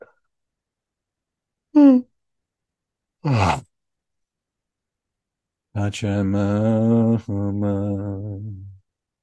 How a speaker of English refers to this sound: Okay. We yawn first.